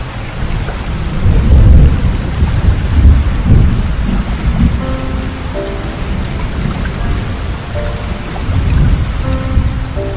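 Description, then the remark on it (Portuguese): Steady rain pours down, a dense continuous hiss of drops with deep rumbling surges of thunder rolling underneath, fairly loud, with no voices. “Nada melhor do que ouvir o barulhinho da água caindo do céu.”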